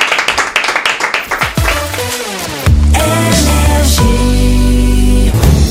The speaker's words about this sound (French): On va applaudir notre invité.